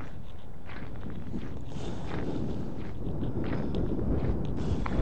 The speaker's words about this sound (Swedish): Och det blåser alltså förskräckligt iskalla vindar måste jag säga också.